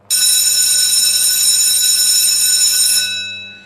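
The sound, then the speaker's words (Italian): A loud bell rings continuously for about three seconds, a bright, steady metallic clangor that cuts in abruptly and then fades away as the ringing stops. “tocca, suona questa cirente campana e comincia.”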